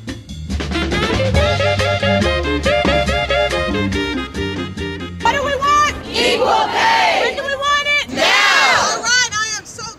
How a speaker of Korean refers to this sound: 뉴욕 거리 한복판에 수많은 여성들 그리고 사회운동가들이 모여 구호를 외치고 있습니다. 이들이 모인 이유는 남녀 임금 평등을 요구하기 위해서죠.